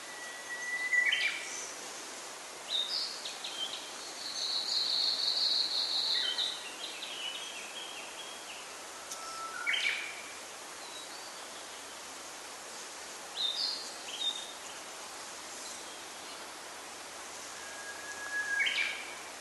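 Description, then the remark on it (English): Bright bird calls and short chirps ring out intermittently, with a longer trilling phrase early on, over a steady hiss of running water in the distance in a park. No one speaks. “And you can hear sort of the running water in the park as well in the distance, that kind of accompanies the song of the birds.”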